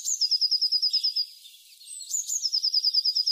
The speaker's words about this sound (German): Und dann habe ich noch Zwitscher, Zwitscher gehört. Ich glaube, du meinst die Blaumeise.